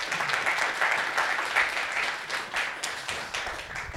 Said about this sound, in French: Vous pouvez l'applaudir pendant qu'il s'installe.